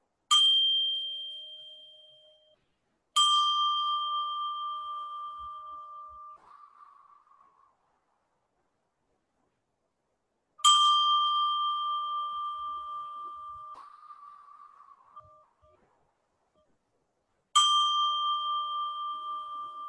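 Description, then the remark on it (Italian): A meditation bell is struck four times at slow, uneven intervals to begin a meditation, each clear metallic tone ringing out and fading gradually before the next strike, with no voices. “Allora possiamo iniziare la nostra meditazione ascoltando tre suoni di campana e ulteriori tre suoni di campana ne indicheranno il termine.”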